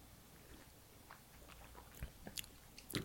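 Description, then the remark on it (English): Quiet sipping of a green, minty cocktail, with a few soft wet mouth clicks and small slurps spread over a few seconds, a little louder near the end, and no talking. “Let's take sips. Yeah. Let's do sip.”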